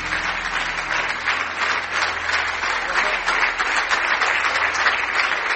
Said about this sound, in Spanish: Gracias. Dele un aplauso fuerte de alabanza al Señor.